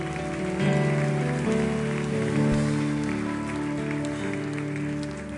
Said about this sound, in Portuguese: pode aplaudir ao Senhor bem forte.